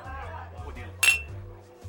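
A single bright clink of glasses touching in a toast at a bar, sharp with a brief ringing tail, over a low steady hum of room ambience.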